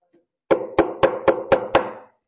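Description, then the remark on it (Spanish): Six quick, evenly spaced knocks on a door, sharp and fairly loud with a hollow wooden ring, with no voices around them. “a la puerta y llamo.”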